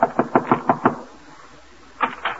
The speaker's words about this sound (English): So now, with his laundry under her arm, she's knocking at the door.